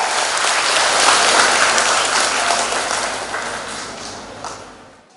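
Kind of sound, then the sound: crowd, big round of applause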